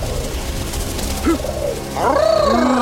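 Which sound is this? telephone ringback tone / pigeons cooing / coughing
pigeons cooing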